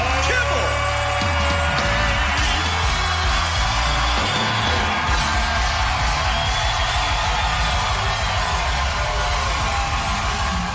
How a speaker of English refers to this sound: Know what applause sounds like, so I'm just going to stop it there. But I don't know that I've ever been louder and more joyful.